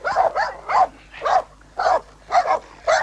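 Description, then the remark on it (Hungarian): A family's vicious dog barks aggressively in a rapid, steady series of about seven sharp, fairly loud barks, with no talking over it. “Jaj, de hamis kutyájuk van!”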